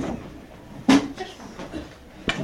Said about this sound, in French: ferme la porte.